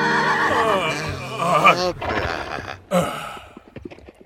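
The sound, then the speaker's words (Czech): A horse gives a loud whinny lasting a couple of seconds, its shrill voice wavering and falling, followed by a short snort and a few soft hoof clops. “A co se asi stane, když popídneme koně?”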